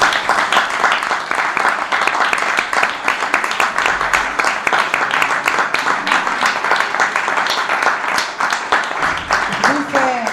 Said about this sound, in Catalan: Per tant, jo us demano que us feu un aplaudiment a vosaltres mateixos perquè sempre